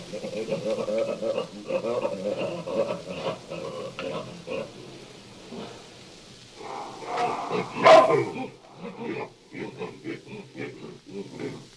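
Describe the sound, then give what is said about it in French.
Hamadryas baboons call back and forth in a busy series of harsh barks, grunts and yelps, with one sharp, loud outburst partway through before the chatter resumes. “Revenons à nos amatriades et voici leur conversation.”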